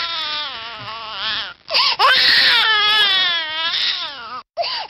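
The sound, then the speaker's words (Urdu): A baby cries loudly and almost without stopping for about five seconds, high-pitched wails that waver and rise, broken by two brief gasping pauses for breath. “اس company کا دعویٰ ہے کہ ان کی بنائی ایک نئی اسمارٹ فون ایپلیکیشن بچے کا رونا سن کر بتا سکتی ہے کہ اسے کیا چاہیے.”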